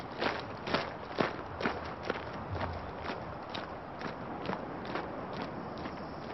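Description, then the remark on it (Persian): Footsteps of soldiers marching in step on command, left, right, in a steady, regular rhythm, a series of crisp thuds about half a second apart, continuing throughout with no talking. “سرباز ها عقب دل قدم رو یک دو چپ راست.”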